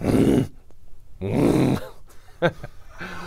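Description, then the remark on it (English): A person imitates a buffalo, as the sound of a Bill (Buffalo Bills), with two deep, rough grunts, each about half a second long and loud, followed by some quieter breathy sounds and a brief sharp noise. “what does a Bill sound like? A buffalo.”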